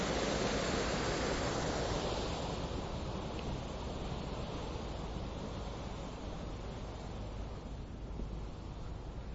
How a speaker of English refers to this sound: As you can hear very loudly now, no doubt, the waterfall.